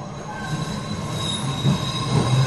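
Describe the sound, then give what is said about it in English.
New York subway train wheels squeal in a sustained, high metallic whine over a loud, steady low rumble of the moving cars, continuous throughout, with no one speaking. “In fact, he was in the New York subway when he reached that tipping point that led him on a journey to find silence.”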